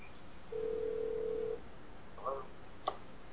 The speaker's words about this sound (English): Now I'm going to try to call John again. I don't know if you folks can hear the phone ringing there, but...